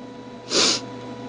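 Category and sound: human body sound, coughing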